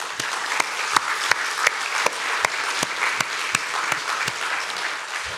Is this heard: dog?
no